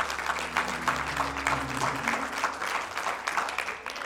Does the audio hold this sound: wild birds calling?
no